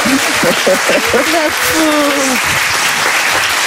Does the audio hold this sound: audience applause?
yes